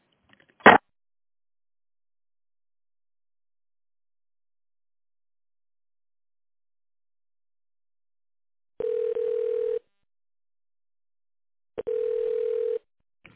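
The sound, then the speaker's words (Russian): A telephone ringback tone while waiting on the line after calling the company Soveton's automated greeting: a short click, a long silence, then two steady, low-pitched, second-long buzzing tones separated by a few seconds of quiet. No one speaks. “Для выбора нужного вам абонента введите добавочный номер после звукового сигнала или дождитесь ответа секретаря.”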